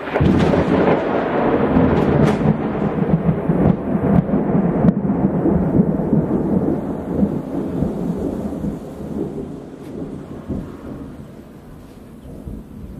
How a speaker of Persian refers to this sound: ناگهان آسمان روشن شد. چنان نورش زیاد بود که به نظرم برای لحظه تمام کائنات روشن شد. و بعد از چند ثانیه صدای غرشی از آسمان در آمد. رعد و برق.